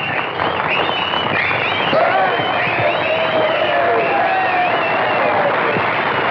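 Children clap and cheer after a song ends, a steady, loud wash of applause mixed with high excited shouts and whoops that carries on without pause.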